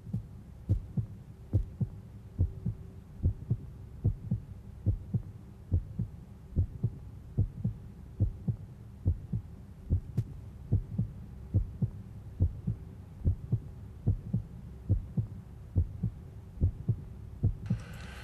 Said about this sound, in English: Baby, can you hear my heartbeat? It's beating to the tone of CITR 101.9 FM.